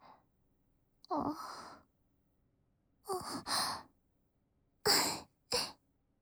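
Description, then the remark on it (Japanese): A big, breathy yawn right by the ear, followed by a longer drawn-out exhale and two short, sharp breaths. No talking. “ごめん、耳元で大あくびとかって。”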